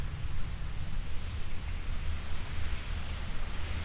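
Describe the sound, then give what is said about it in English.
Steady, dense rain hisses, pattering on cars parked on the side of the road and dripping off a building, with a low rumbling undertone, heard while walking in the rain along Frankfort Avenue. The wash of sound stays constant throughout, with no voices. “I always wanted to record walking in the rain anyway.”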